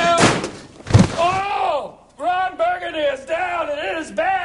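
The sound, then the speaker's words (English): In the trailer for the film Anchorman, Will Ferrell's title character knocks himself out on the open drawer of a filing cabinet: a sudden, loud hollow thunk of his head striking it, followed by a man's drawn-out groans and pained moaning. “The preview for the new film Anchorman has Will Ferrell's title character knocking himself out on the open drawer of a filing cabinet.”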